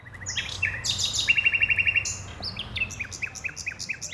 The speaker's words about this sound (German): Die Nachtigallen besingen im Berliner Volkspark Friedrichshain den Mai, belauscht von einer bunt gemischten Gruppe.